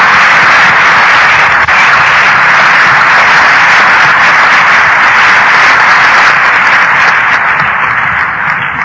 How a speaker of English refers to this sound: And I think maybe we owe him an applause. He did a lot of work just to get it there.